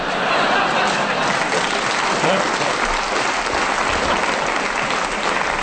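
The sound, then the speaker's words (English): A crowd applauds steadily, a dense wash of many hands clapping at a constant, fairly loud level for several seconds with no clear gaps or individual claps standing out. “We've got a laugh the first time and a round of applause the second.”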